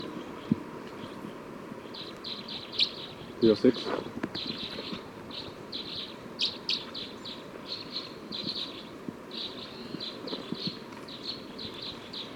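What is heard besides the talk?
bird song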